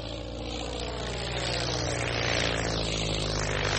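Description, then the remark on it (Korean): A propeller airplane, a Fokker F7 named Friendship, drones steadily and loudly, a dense buzzing roar with a slowly rising, throbbing pitch as it powers up for takeoff from Trepassey Harbour airport in Newfoundland, Canada, on 17 July 1928, with no voices present. “세 사람은 1928년 7월 17일 캐나다의 뉴펀들랜드에 있는 트레파시 하버 공항을 이륙했습니다.”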